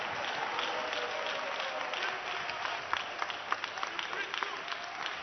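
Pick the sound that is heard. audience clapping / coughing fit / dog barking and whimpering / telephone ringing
audience clapping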